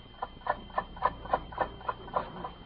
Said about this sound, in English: All is silent, but for the ticking of an alarm clock.